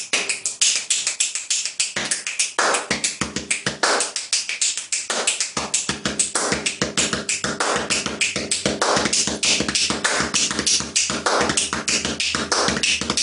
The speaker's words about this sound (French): Voilà, il claque des doigts, il tape des mains, il se frappe la poitrine, et ça fait ça.